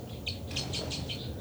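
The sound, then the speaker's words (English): Bird calls from two birds, numbered 273 and 274, responding: a quick run of about half a dozen high, bright chirps in steady succession, fairly soft over a low background rumble, with no voices. “Both birds here.”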